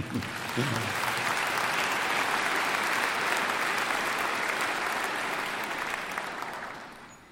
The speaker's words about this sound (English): A couple of others, have you received him? You can clap if you have.